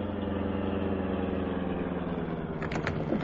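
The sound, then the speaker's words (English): A car engine idles after the car slows down, with a steady, low rumbling hum throughout, loud, with a couple of brief clattering bursts near the end. “Well, run right up beside their car. Slow down for me to jump off.”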